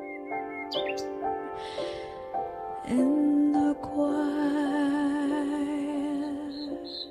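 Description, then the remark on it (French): Nightingale song, with bright chirps, trills and whistles rising over sustained, wavering low instrumental tones playing along. It is steady throughout, with no talking. “Le rossignol est une muse de choix dont le chant a beaucoup inspiré la culture populaire, contes, chansons, poèmes, compositions classiques aussi.”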